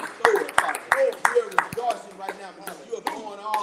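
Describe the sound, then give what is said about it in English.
An audience claps together during a prayer in the name of Jesus, in a steady, brisk rhythm, about three sharp claps per second, while voices carry on underneath the beat. “We are clapping right now, Father.”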